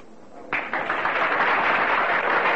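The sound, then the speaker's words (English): An audience breaks into applause for a singer as she walks out on stage and bows, after a faint opening moment, the clapping swelling quickly into a dense, steady wash of many hands that holds at full strength, with no voices over it. “Slowly walking out on the stage, … bows slightly to her applauding audience.”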